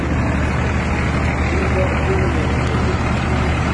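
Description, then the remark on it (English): A Cummins turbo diesel Dodge Ram 2500 pickup truck engine idles, a steady loud rumble with a rough, clattering texture that holds constant throughout without pauses. “do you hear that clatter? That ain't no $50,000 Dodge Ram 2500 pick-em-up truck”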